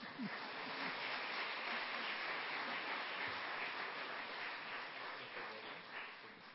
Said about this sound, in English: You're allowed to applaud.